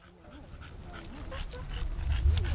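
A dog named George Elliott, on a museum's walk through a park led by the museum's chief curator, gives soft whimpers and pants over steady outdoor background noise that slowly grows louder, with a low rumble building toward the end.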